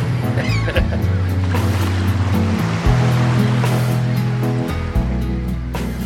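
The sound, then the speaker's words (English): Steady ocean surf rolls and breaks in a continuous broad wash on Ocean Beach in San Francisco, with a sustained musical tone layered over the top of the waves. “The sand sculptor Kirk Rademacher on Ocean Beach in San Francisco.”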